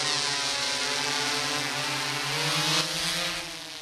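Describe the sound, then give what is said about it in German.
A drone carrying multispectral cameras rises and flies back and forth over the forest at the Kranzberger Forst near Freising. Its rotors whir in a steady, buzzing drone, their pitch shifting slightly as it climbs and flies. The sound is loud and continuous, with no voices. “Eine Drohne steigt auf und fliegt über dem Wald hin und her.”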